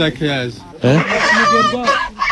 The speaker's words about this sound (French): Et viens voir aussi, ça regarde les poules. Là, les poules sont à toi aussi.